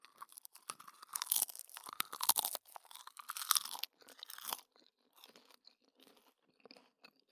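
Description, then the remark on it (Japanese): Crisp nori peeling off a cheese-filled rice cracker (senbei) crunches in a dense burst of crackling bites for about four seconds, then softer, scattered chewing crackles follow. No one speaks. “海苔がね、結構ね、ほら、パリッと外れる。”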